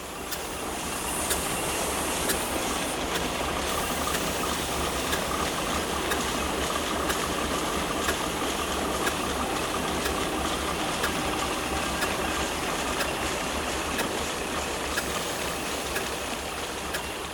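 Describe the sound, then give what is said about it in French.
A factory steam engine, not the original one, started at the press of a button to simulate the site's activity, runs steadily: a dense mechanical rumble and hiss holding at constant loudness, with faint regular ticks and knocks repeating throughout. No one speaks. “Appuyez sur le bouton pour simuler la mise en marche de l'activité du site.”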